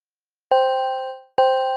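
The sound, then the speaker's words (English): A phone notification ding sounds twice, about a second apart: bright, bell-like chimes that strike sharply and ring out briefly. Both are clear, with no talking. “It could be the sound of your phone dinging every time you sell a product with TikTok ads this holiday season.”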